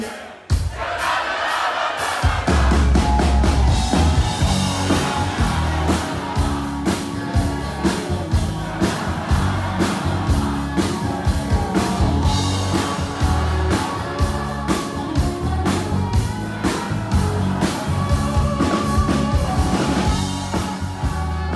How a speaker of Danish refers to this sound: Men jeg synes, det er sindssygt fedt, at de så har stået på og råber mit navn nu. Men det kommer faktisk lidt bag på mig hver gang.